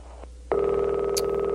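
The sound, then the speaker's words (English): A telephone ringback tone starts abruptly about half a second in and holds steadily, a clear, fairly loud electronic ringing on an outgoing call to a Domino's Pizza in Kyoto, Japan, with a faint line hum beneath it and no talking. “Oh, we're ringing now.”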